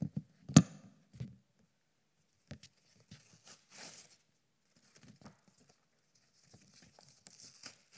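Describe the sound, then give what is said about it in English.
Two sheets of paper being torn apart, a sharp rip at the start followed by intermittent crackly, rustling tearing bursts that come and go over several seconds, with no voices. “Those two pieces of paper representing a married couple who are one.”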